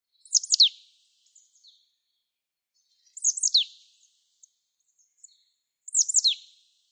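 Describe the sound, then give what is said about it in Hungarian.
A marsh tit calls three times, short bright high-pitched chirpy bursts spaced a few seconds apart, with faint softer notes between them, heard clearly and alone against a quiet background. “A gyűrűző táborokban is azért mindig az ember felkapja a fejét, na végre egy barátcinege, a kékcinege meg a széncinege tengerben.”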